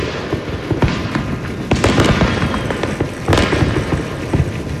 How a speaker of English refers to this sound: If you were up at midnight to celebrate the new year, you probably heard booms of illegal fireworks all across Sonoma County.